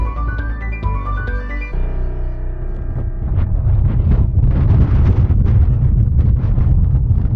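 Strong wind gusts roar and buffet at the summit of a volcano, Montpellier, at about 1400 metres altitude beside a large crater, a deep, continuous rumble that swells louder over several seconds, following a brief run of melodic tones at the start.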